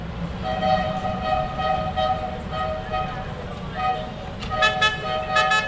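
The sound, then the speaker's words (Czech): Vehicle horns blare almost continuously over a low, rumbling bed of engine noise, with a few sharper honks cutting in near the end, from a traffic jam on the way out of a city. “Obtížně se dopravní zácpou prodíráme ven z města.”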